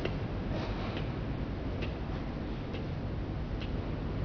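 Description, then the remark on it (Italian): Faint, steady ticking of a clock on a work desk in silence, a few soft clicks spaced at even intervals above a low background hiss, with no voices. “Il silenzio vero è quando io sto zitto e ho l'orologio sul tavolo del lavoro.”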